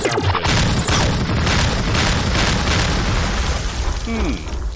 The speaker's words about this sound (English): I wonder what Lou thinks. Think it needs a few more explosions, or what's your thought on that, Lou?